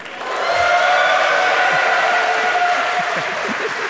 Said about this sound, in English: I wanted to wait until your applause was fully gone. I wanted to know that those claps were for me.